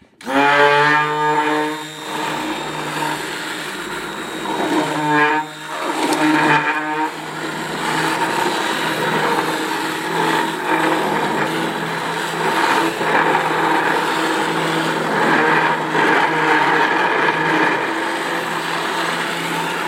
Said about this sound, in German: Das könnte ein bisschen lauter werden. Das heißt, du steckst jetzt, das schaut ein bisschen aus wie ein Stabmixer. Das ist ein Stabmixer. Es ist, weil es ein Stabmixer ist. Alle in Deckung, der Stabmixer geht an.